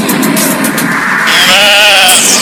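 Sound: sheep bleating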